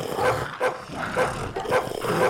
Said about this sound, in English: Oh, my God. It's so loud. Jesus. Look how many dogs she gave us.